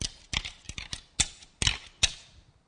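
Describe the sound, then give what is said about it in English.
A hunter up in the trees rattles a rack of deer antlers together to draw a white-tailed buck during the rut. It makes a run of sharp, hard clacks in an uneven rhythm, the louder knocks ringing briefly and bright before quieter clicks, with no voices. “You see, the way white-tailed deer are, the guy up in the trees rattling this, and way off somewhere in the briar brushes is a little buck.”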